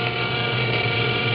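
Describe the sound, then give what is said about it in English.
A paint sprayer spraying a mixture of granite sand and very thin lacquer onto a turtle runs steadily, giving a continuous mechanical buzz with a low motor hum and a rough, even hiss that holds at constant loudness throughout, with no voices. “I put the mixture in the paint sprayer, so...”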